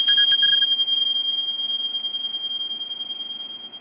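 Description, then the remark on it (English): Tibetan bells are struck once during a guided deep-breathing exercise and ring out in a bright, high, pure tone that hangs steadily and slowly fades over several seconds, with no voices. “And again, and these are the Tibetan bells.”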